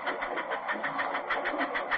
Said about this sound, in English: Listen to that. Here's a passing train. This is a sound that I heard all through my childhood.